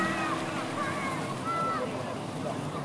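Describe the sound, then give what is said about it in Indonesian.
Sea water sloshes and gurgles in a steady, unbroken wash of noise, fairly loud throughout, with faint higher tones drifting over it now and then. “Mendengar gemericik air yang bisa menenangkan pikiran.”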